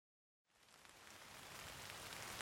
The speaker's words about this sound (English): Oh no, it's raining. We can't go on our picnic.